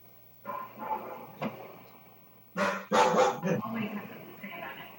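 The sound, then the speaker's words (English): A dog lets out a short run of loud barks, three or four sharp bursts, over a steady low hum and faint murmuring voices, during an Atascadero City Council meeting. “Dog always has something to say about it.”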